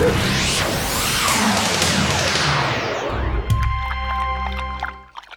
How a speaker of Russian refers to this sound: Ой, все статуи рухнули разом! И разбились! Вдребезги!